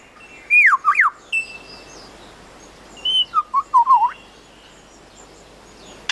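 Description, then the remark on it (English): A male bird in the forest mimics man-made technology, here a camera with a motor drive: sharp swooping whistles, then a quick run of five or six clipped, mechanical bursts, fairly loud over a soft hiss, with no talking. “And now a camera with a motor drive.”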